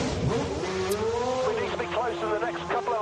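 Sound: racing car engines revving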